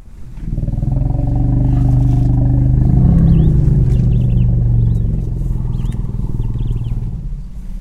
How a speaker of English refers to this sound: But this purring sound didn't come from a lion or a leopard. It was an elephant. In fact, elephants use these low rumbling growls to greet each other and communicate over long distances.